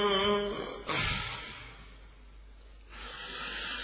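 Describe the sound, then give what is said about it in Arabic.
A single sharp dying gasp rises near the start, then trails off into a long, quiet exhaled breath that fades into soft hiss, heard alone; the last breath of al-Hurr in a dramatized Ashura account. “شهق شهقة فارقت روحه الطاهرة الدنيا.”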